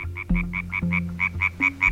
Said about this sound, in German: ein Frosch?